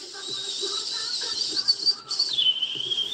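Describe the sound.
A man in a kitchen mimics a dentist's drill with his voice: a thin, shrill whine held for about three seconds, wavering and sliding in pitch, with faint low murmuring underneath.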